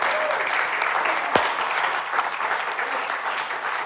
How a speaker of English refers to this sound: Everyone clapping.